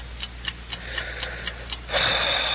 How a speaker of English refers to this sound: Have you noticed how loudly clocks seem to tick when there's someone dead in the house?